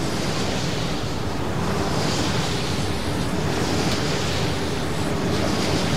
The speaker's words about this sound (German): Auch das Windrad ist extrem repetitiv. Da hat man so eine minimalistische Struktur, so wie Minimal Music, die sich leicht verschiebt in seiner Zusammensetzung, in seiner Phase.